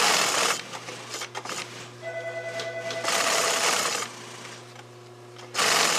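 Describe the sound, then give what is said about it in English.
An industrial sewing machine at Nomar stitches several layers of sewing onto the seams of a Brailler fishing bag, running in bursts, its motor droning with a steady buzzing hum and rapid mechanical stitching, pausing briefly between runs before starting up again. “It's got several layers of sewing on these seams because that picture, I love that picture. I keep that by the machine”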